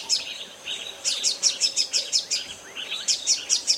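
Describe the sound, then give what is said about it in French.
A double-collared sunbird's song: rapid, high-pitched twittering phrases of repeated sharp notes in quick rhythmic bursts, clear, with no voices. “c'est que l'environnement des sui manga à double collier a très peu évolué, alors que normalement, les chants des oiseaux se modifient parce que l'environnement se modifie.”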